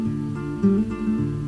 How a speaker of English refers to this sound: That is exactly the same guitar. Okay, a new whistling melody over the guitar.